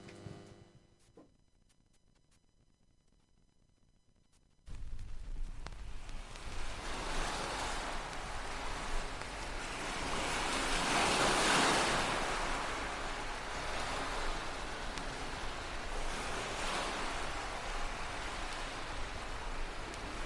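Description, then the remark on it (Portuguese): After a few seconds of near silence, steady rushing ocean waves of the North Sea fill the scene, a broad roar of surf that slowly swells and recedes, cresting loudest midway, with no voices. “Relaxar os coas ondas do Mar do Norte.”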